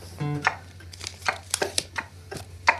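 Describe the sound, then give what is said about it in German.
A voice beatboxes a wall clock's ticking as a quick drum-and-bass beat: sharp, crisp mouth clicks in a fast, uneven rhythm, opening with a short low hum over a steady low drone. “Eine Drum and Bass Wanduhr.”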